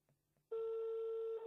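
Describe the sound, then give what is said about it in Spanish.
A single loud, steady electronic ringback tone sounds for about a second, a phone ringing on an outgoing call from Radio Ciudad Santo Tomé to national deputy Fabián Borda, preceded by a faint quiet moment and no voices. “Ahí está sonando el teléfono al diputado nacional Fabián Borda.”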